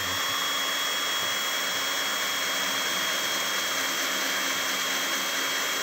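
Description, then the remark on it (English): A power drill runs steadily as it threads into PVC, giving a continuous whirring whine with a constant pitch and no pauses for about six seconds, with no voices. “And then when you do bring it back up, you just kind of let the drill carry itself, because if you pull too much, you'll mess up the threads.”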